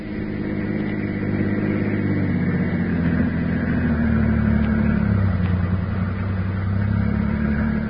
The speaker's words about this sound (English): I've got my car. We'll go for a drive. That way, conversation's private. Come on.